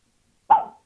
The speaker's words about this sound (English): So I hear your dog. Who's your dog voting for?